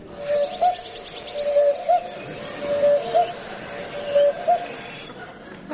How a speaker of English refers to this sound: As some rotten devil has taken a cuckoo clock and fixed it so that the bird comes out backwards and says, ooh, cook.